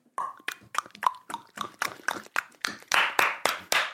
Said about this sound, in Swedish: Klappa händer och klicka ljud i mun.